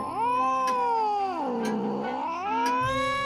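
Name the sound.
cat caterwauling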